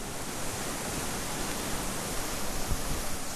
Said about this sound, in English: At three quarters of a mile, the river begins to roar, and down a steep bank, I stand before a heavy waterfall that dumps out through a chokehold tower of stone into a wide pool.